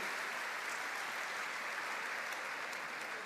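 An audience applauds steadily, with dense, continuous clapping at an even loudness for the whole few seconds. No voices stand out over the sound.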